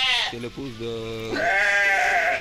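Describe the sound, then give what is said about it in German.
Rams bleating from a neighbouring house in two long, wavering calls, the first lower and quavering, the second higher and more nasal, loud and clear with no talking over them. “Vom Nachbarhaus ist Hammelgeblöke zu hören.”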